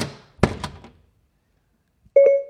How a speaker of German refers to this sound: Frankie, schließe die Tür.